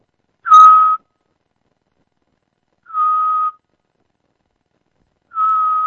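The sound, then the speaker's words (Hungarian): A person whistles an imitation of a Eurasian scops owl: three short, steady, mid-pitched notes spaced about two and a half seconds apart, clear, with silence between. “Igen, a füleskúviknak nagyon jellegzetesen melankolikus, füttyövő hangja, ugye meg is próbálom ezt utánozni, azt véletlenül tudom.”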